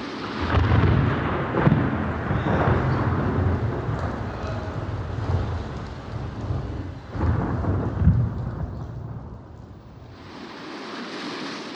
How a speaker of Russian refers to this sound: Шел он однажды через незнакомое поле, и вдруг разразилась гроза.